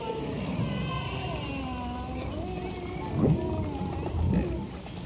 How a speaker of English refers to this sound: It was some of the most amazing sounds that I had ever heard come out of a humpback whale.